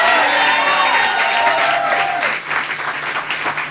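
audience applause and cheering

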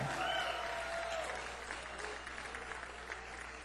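audience applause

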